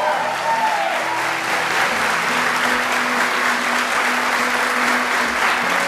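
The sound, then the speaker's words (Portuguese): An audience bursts into steady, sustained applause, a dense wash of clapping that stays loud and even for several seconds, with faint voices and a low tone humming underneath. “E se for verdade, seu coração aplauda aí mais uma vez.”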